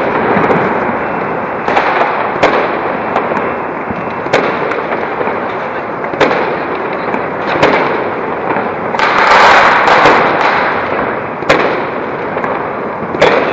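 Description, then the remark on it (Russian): Fireworks and firecrackers set off in the streets for the Chinese Lunar New Year, in a dense, continuous barrage, with sharp cracks and pops punctuating a constant rumble of bangs, loud and relentless with no talking. “Там только дым от петард и от фейерверков.”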